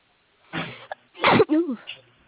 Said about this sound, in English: Bless you.